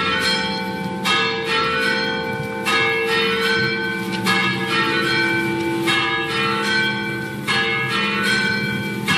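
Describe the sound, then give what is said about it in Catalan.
Church bells peal continuously, with overlapping strikes ringing out every second or so and rich, lingering overtones; loud, with no voices present. The bells are a sound effect, not real bells. “Com és que sonen campanes?”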